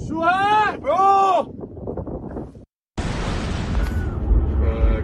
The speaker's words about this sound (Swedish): It was a massive explosion. What? Another view from the bay.